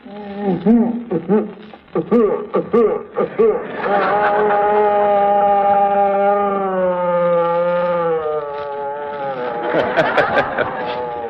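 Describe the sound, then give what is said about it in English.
A phonograph sound effects record of a bawling infant, played back slowed down to serve as the sound of a man having a bad case of pink snakes: choppy, low, warbling vocal-like bursts give way to a long, drawn-out groaning tone that slowly bends in pitch before breaking into a rough, hissy flourish. “Several months ago, we showed how this same record, played at slow speed, is also used for the sound of a man having a bad case of pink snakes, we'll call it.”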